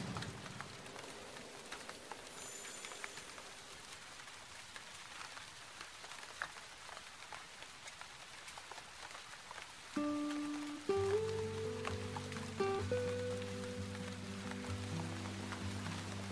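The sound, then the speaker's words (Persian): Steady rain falls and patters across a surface with a dense, even hiss, with no one talking; about ten seconds in, sustained musical tones rise and play on beneath the rainfall. “داره بارون میاد.”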